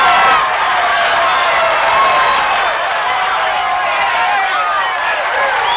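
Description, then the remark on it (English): A loud, dense crowd of newspaper publishers and others at the finish line of a running race cheers and shouts continuously, with whoops and excited voices overlapping in a steady roar and no single voice standing out. “I'm working my way through the crowd now, trying to reach the publisher of the Journal.”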